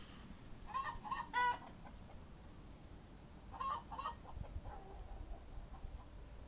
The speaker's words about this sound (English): Well, they've calmed down a bit now, but I'm just going to try and record my chickens. They've really gone crazy. There's, like there's an alien in the coop or something.